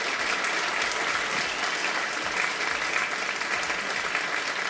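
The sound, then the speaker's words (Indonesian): A steady burst of audience applause, dense overlapping claps sustained evenly throughout at a fairly loud level, with no voices. “Tepuk tangan dulu dong.”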